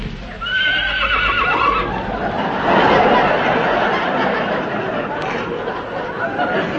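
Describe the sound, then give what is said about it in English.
A horse lets out a loud, quavering whinny near the start, its pitch falling away, followed by a steady rumble of background noise and faint hoof clatter. “Well, the horse seems to think you're all right.”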